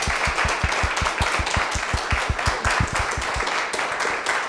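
An audience at a brown bag talk applauds the speaker steadily, dense overlapping claps with a few sharper individual claps standing out, sustained and fairly loud for several seconds with no talking.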